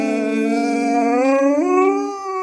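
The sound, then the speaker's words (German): A dog named Rocky howls, singing along, in one long, sustained, tonal note that wavers slightly, then steps up in pitch partway through before easing off at the end. No speech. “wenn Rocky nicht bei mir ist und ich bin irgendwo unterwegs und ich höre eine Sirene, dann warte ich eigentlich nur darauf, dass Rocky mitsingt.”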